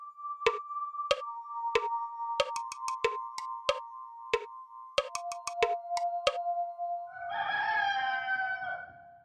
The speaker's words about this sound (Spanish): ¿Cómo es posible que haya tantos gallos y que todos canten al mismo tiempo?